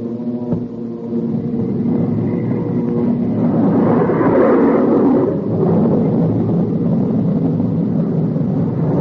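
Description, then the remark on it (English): A heavy, droning B-29 bomber roar fills the scene as the jet engine of an FS-2 aircraft carried beneath it is switched on at about 225 miles per hour, its rushing whoosh swelling loud midway and then holding steady, with no voices. “Then Captain Mayo switched on our jet engine.”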